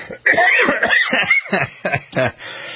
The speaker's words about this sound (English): can do to get rid of his cough.